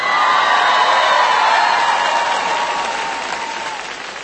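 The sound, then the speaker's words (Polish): A large crowd of young people applauds steadily while voices shout and cheer over the clapping, a loud, dense roar that holds for several seconds before slowly easing off. “Ponieważ tak krzyczą, więc jeszcze raz się zwracam do młodych.”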